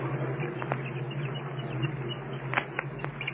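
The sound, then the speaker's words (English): A few brief, muffled peeps from a chick still inside its egg, picked up by a sensitive microphone held against the outer shell, scattered irregularly over a steady low hum and background hiss, faint and close-miked. “You can hear them chirping anyway inside of the egg.”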